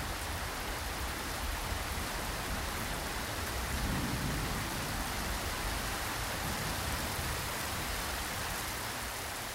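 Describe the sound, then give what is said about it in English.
A heavy rain and thunder mix from a white noise app: heavy rain pours steadily and loudly throughout, a dense continuous hiss with no pauses; a soft low rumble of thunder swells briefly near the middle, and no one speaks. “And the one that I found that hid dad snoring the most is the one that had Heavy Rain and Thunder.”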